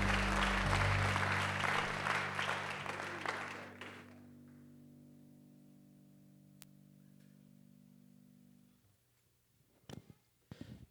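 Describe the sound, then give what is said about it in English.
A church audience gives a hand clap of praise as they are seated, clapping loudly together for a few seconds over sustained organ-like chords; the applause stops abruptly and the held keyboard tones linger alone before fading. “Somebody give them one more hand clap of praise as you're seated.”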